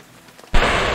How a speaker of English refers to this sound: there is no shelter from the rain in such an extensive green field.